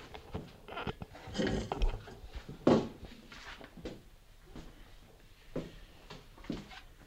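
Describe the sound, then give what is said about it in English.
Uneven handling noise: bumps, knocks and rustling scrapes as a microphone stuck around a chair is tugged loose, with a sharper thud near the middle and quieter fumbling afterward. “I can't get the mic's kind of stuck around the chair here.”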